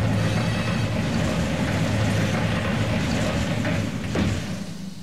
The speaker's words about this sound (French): Qu'on ferme les portes de ce wagon, personne ne doit sortir.